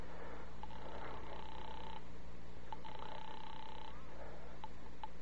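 A telephone rings twice through the earpiece in long, buzzy bursts, followed by a couple of sharp clicks, over a steady low hum with no one speaking.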